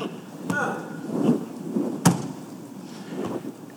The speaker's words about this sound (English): You know, see, I just wanted to make the sound, just the sound of nails. Just boom, boom.